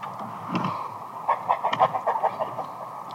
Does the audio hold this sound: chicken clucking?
yes